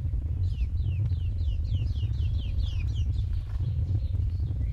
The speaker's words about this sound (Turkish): Güzel oluyor. Seviyorum burayı. Kuşların sesi iyi hissettiriyor.